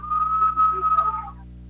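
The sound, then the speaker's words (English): A referee's whistle at a wrestling match sounds one steady, sustained blast lasting about a second as the official calls a stalemate, clear and fairly loud over a constant low background hum, then cuts off. No one speaks. “But the official calls a stalemate there.”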